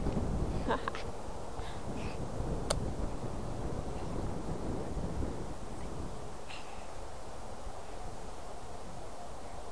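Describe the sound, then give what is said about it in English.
Steady low, rumbling wind noise buffets the microphone outdoors on a chilly day during a short walk, with a few faint higher chirps or clicks scattered over the constant roar. “It's windy. See, it's windy. It's so windy.”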